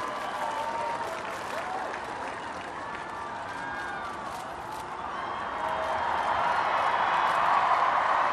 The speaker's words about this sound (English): Each time he waves, you're hearing a cheer. And chants of the president's name out on the mall, hearing Obama, Obama.